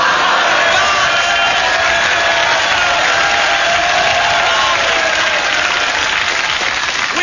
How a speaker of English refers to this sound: have lately received a number of complaints that this program is too noisy and that our audience has been laughing too loud and clapping too much. In fact, we do make a fortune by exporting our spare applause to the Andy Williams Show.